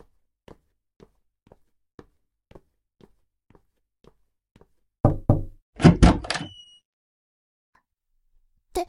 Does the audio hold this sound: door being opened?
yes